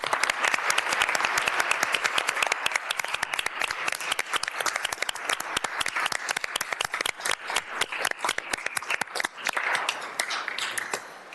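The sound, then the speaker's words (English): A crowd applauds steadily for about eleven seconds for committee members standing to be recognized, dense overlapping claps forming a bright, sustained wash that thins out and fades near the end. “So if our committee members are here and are willing and able to stand up and be recognized, we would love to just give you a quick round of applause.”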